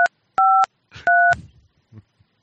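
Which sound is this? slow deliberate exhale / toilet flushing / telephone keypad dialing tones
telephone keypad dialing tones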